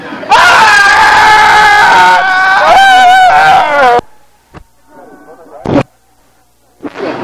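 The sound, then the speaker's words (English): Several people scream loudly together for about four seconds, harsh and strained, then break off into quieter moments with a few brief sharp bursts and noises. “And I think that means we need to start screaming!”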